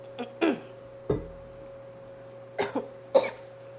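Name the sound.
coughing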